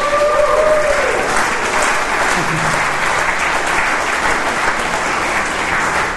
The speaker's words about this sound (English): You're all clapping for yourselves.